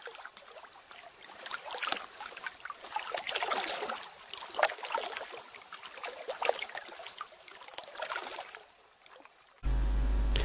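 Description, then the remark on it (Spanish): Gentle Baltic Sea waves wash and lap in soft, rhythmic surges, steady with no voices; near the end the water cuts off abruptly into a sustained tonal sound. “Y de fondo, el rumor suave de las olas del Báltico.”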